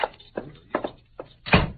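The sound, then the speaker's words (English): A few hollow, evenly spaced thumps like footsteps lead into a heavier, louder thud at the end, a door swinging shut as people leave, with no voices. “Come, Pancho, and back out the door.”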